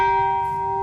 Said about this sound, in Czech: Popisuje Jeb, jak se z odlitku stane krásně znějící zvon, který pak zní takto.